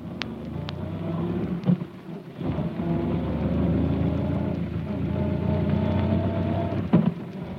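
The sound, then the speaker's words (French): A car races along at high speed, its engine a loud, steady low roar with a few sharp knocks and thumps along the way. No one speaks. “nous avons été assaillis, assommés, ligotés, enlevés par des hommes masqués qui nous ont poussés dans une voiture et emmenés à vive allure.”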